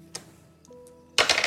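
Dice rolling: a sharp single click, a few faint taps, then a loud clatter of several rapid rattling hits at the end, with no voices; the roll comes up 98.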